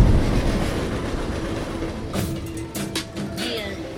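A train rolls past, a heavy, steady rumble with sharp metallic clacks of wheels over rail joints in the second half, no voices.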